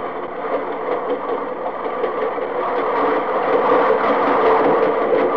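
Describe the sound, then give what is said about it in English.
A long freight train of about 120 loaded refrigerator cars, not diesel-hauled, rolls steadily past a grade crossing, its wheels clicking in a fast repetitive rhythm over a dense rumbling roar that swells slightly louder as the cars go by. “There go the reefers past.”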